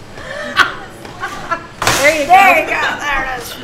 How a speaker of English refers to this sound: will you open and close the screen door a couple times?